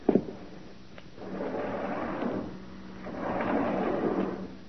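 door being opened

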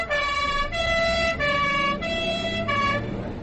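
ambulance siren

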